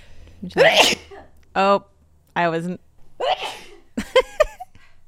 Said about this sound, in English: I really have to sneeze. Can you?